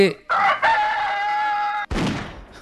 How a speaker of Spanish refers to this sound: Sí, y estaba buscando una información, sí, que habla sobre por qué canta el gallo. Este está medio difónico.